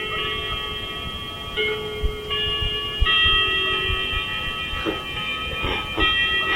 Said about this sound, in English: I'll let the clock ring. It didn't know it was going to be recorded. Well, at least everyone listening to the tape will know it's 10 o'clock.